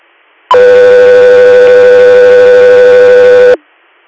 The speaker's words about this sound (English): Guthrie Air, stand by for tones.